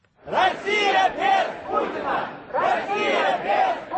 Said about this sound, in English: They shouted anti-Putin slogans and demanded freedom